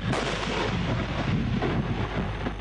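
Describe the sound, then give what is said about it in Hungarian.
A heavy tank cannon shot booms as a tank crew fires at a target along the Israeli-Lebanese border, its roar spreading into a dense, sustained rumble that rolls on for a couple of seconds with no voices. “És ha elégedetlenek, jöhet az újabb lövés.”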